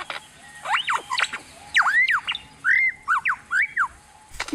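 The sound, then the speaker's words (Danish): A lyrebird mimics a laser gun and robot sounds, letting out a rapid series of swooping, electronic-sounding whistles and squawks, like laser blasts and robot bleeps, loud, in short bursts with brief pauses and no talking. “En lyra. Lyra bird. Er hun flippet? Det er fuldstændig som læsegevær.”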